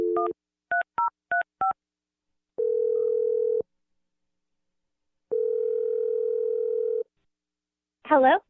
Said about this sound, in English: I'm gonna dial her phone number right now. Here we go. Okay.